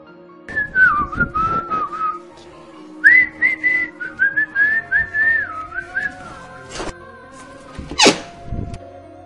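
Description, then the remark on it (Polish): A whistle, found lying at the bottom of a chest, blown in several wavering, warbling bursts, sliding up and down in pitch, clear, with a couple of short sharp noises near the end and no talking. “Na dnie leży jakiś gwizdek, tylko gwizdzi.”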